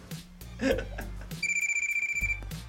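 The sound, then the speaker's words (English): A telephone rings with a rapid trilling bell, a steady burst of about a second over low background music and some brief vocal sounds. “Get the phone.”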